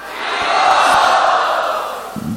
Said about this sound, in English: Well, don't yell before you know what it is. Maybe you will not like it. But now you have all shouted in joy, now you have to do it.